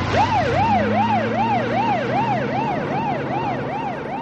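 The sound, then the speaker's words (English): A police squad car's siren wails in a rapid, steady warble, rising and falling about twice a second, loud over a low engine rumble, as the car takes off, easing off slightly toward the end. “She took off in the squad car.”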